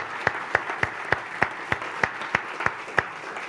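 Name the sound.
audience applause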